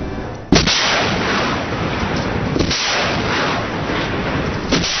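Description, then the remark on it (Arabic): A surface-to-air rocket launched by Qassam Brigades fighters toward an Israeli warplane over the Gaza Strip: a sudden sharp blast gives way to a loud, continuous rushing roar that holds steady for several seconds, with faint cracks and rumbles mixed in. “وأطلقت كتائب القسام الجناح العسكري لحركة حماس صواريخ أرض جو على طائرات حربية إسرائيلية كانت تقوم بقصف القطاع، وأظهرت مشاهد وزعتها القسام عناصر من المقاومة وهم يقومون بإطلاق صاروخ أرض جو باتجاه طائرة حربية فوق القطاع.”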